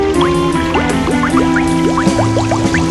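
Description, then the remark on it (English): Water boils in a kettle at a fireplace as its lid is lifted off, bubbling and gurgling steadily with quick rising bloops over a constant watery rumble, fairly loud, with no voices. “Whistling calmly, the little pig walked across the room to the fireplace and lifted the lid off the boiling kettle of water.”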